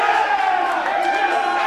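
A crowd roars and cheers in a steady, loud wash of voices, with higher whoops and shouts rising over the dense noise throughout.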